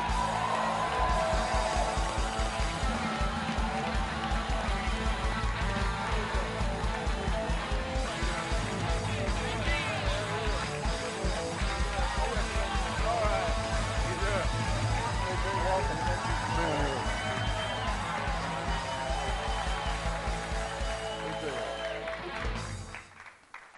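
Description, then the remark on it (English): A large live audience at the Packers Live show cheers and applauds steadily for over twenty seconds as A.J. Hawk, the leading tackler in Green Bay Packers franchise history, is welcomed as guest; a loud, dense wash of clapping and shouts with voices mixed in, fading slightly at the end. “It's a good crowd. You guys are excited.”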